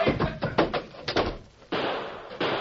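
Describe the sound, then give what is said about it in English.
A wooden door is struck and bursts open in a rapid burst of heavy thuds and bangs. A steady, hissing rush of noise follows. “The door, Tonto. We'll jump for it.”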